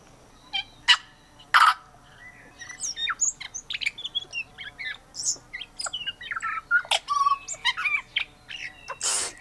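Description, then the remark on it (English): A tui, an indigenous New Zealand bird also called the parson bird, sings a varied, busy song of liquid notes, sharp clicks, whistles and wheezy chirps in quick irregular bursts, fairly loud, with no voices. “We're listening to the tui bird from New Zealand, an indigenous bird, also known as a parson bird because of its black plumage and a little white tuft under its chin.”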